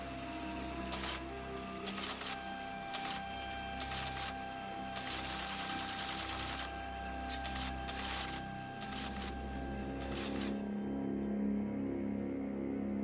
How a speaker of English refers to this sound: leans over types at the keyboard.